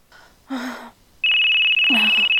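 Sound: telephone ringing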